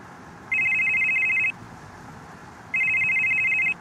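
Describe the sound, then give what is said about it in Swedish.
A telephone rings twice, each burst a rapid electronic trill lasting about a second, separated by a pause, clear against a soft background hiss; a librarian from Filipstad is calling while the listener drives, some 20 minutes past Kristinehamn, Sweden. “Telefonen ringde.”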